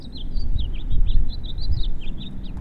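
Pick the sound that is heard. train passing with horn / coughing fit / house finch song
house finch song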